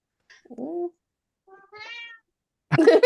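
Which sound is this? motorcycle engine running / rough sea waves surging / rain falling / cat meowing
cat meowing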